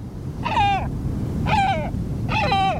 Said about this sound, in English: A bald eagle might come to mind, but this is no eagle. It's a great black-backed gull, the world's largest gull.